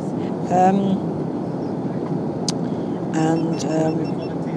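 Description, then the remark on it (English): A steady, low airplane cabin engine drone, heard about three to four hours into a 9-hour flight, fills the whole recording as a constant rumbling hum, with brief bursts of voices talking over it. “We've had our lunch on the plane, and now just waiting the time out, really.”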